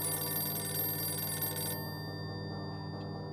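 telephone ringing

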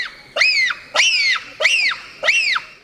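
bonobo high-pitched screeches

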